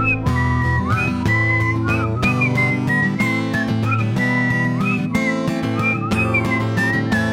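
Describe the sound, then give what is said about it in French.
People whistle a bright melody, a bouncy tune over a steady accompaniment, the notes gliding and repeating in short phrases, loud throughout with no talking. “La dictée de Hélium, c'est nous qui la sifflons. Sifflons, sifflons la dictée de Hélium.”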